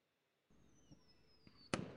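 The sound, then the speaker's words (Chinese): A firework whistles as it climbs, with a high thin tone sliding slightly down, a couple of faint pops, then a loud booming burst near the end and a crackling tail. “哦，五烟花的声音啊。”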